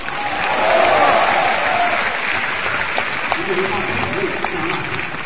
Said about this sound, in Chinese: 可以鼓掌了。